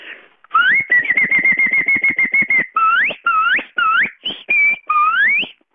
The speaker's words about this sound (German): Und wenn ich so pfeife, dann wissen die Ross, jetzt müssen sie kommen. Jesus Gott, das heisst, ihr tut mit den Fingern, gell? Das ist schon ja, richtig. Mit zwei Fingern, mit dem Daumen und dem Zeigefinger.